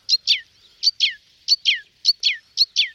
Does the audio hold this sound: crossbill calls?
yes